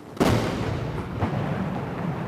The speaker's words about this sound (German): 70 Mal feuern die Kanonen zu Beginn der Militärparade an diesem Morgen Salutschüsse ab. Für jedes Jahr seit der Gründung der Volksrepublik einen Schuss.